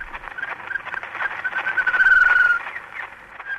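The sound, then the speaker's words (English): A bird sings faintly through the heavy hiss and crackle of a very old, muffled 1889 recording, the first bird recording, made by Ludwig Koch and featured in a BBC radio documentary, with thin whistled notes and one longer, brighter whistle near the middle. “Actually, the first guy to develop a parabolic dish was a fellow named Ludwig Koch, K-O-C-H, and he was a German fellow who moved to the UK, and in 1889 recorded the first bird.”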